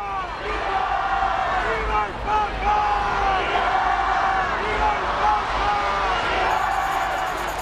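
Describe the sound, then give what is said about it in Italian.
A large crowd along the route to Plaza de Cibeles cheers and shouts festively, greeting Pope Benedict XVI riding in the Popemobile, with many overlapping voices calling out in a steady, loud roar that holds throughout, punctuated by occasional rising whoops. “Lungo il percorso la folla lo saluta festosamente.”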